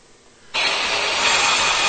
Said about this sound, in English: Buzz saw. Yeah, circular saw.